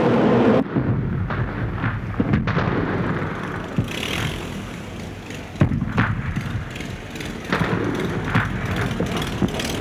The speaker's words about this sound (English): The earth shook as the British biplane sputtered meters over Heinrich Hess's head and crashed. The plane exploded into a fireball, hurling Heinrich against the mud and into the foot of bloody, pooled rainwater at his feet.